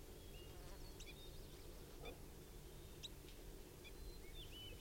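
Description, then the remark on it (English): Birds chitter softly at a net setup by bird cages, giving a few scattered, brief high chirps and faint twittering calls against a steady low droning hum. No one speaks. “Birds are just chittering and giving soft calls now.”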